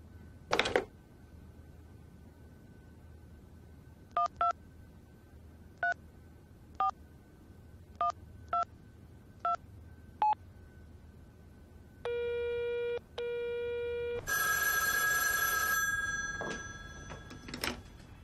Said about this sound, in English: If you think I'm right, then pick up the phone and give her a call.